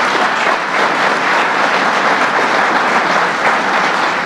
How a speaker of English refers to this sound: Let's give Governor Cuomo a big round of applause.